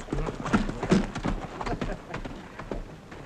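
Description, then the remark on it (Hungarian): Horse hooves clip-clop in a steady rhythm as the horse, Etelka, moves along, with voices talking faintly underneath. “Mert nézze, kérem, ha én megbököm a sarkantyúmmal a ló egyik oldalát, és a ló elindul, akkor vele megy a másik oldala is, nem igaz?”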